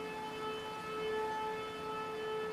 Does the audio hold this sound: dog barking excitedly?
no